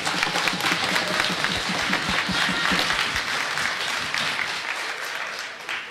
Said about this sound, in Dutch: Maar voordat zij dat gaat doen, wil ik in ieder geval als eerste alle deelnemers bedanken, want zonder jullie hebben we geen toernooi. Dus een applaus voor jezelf.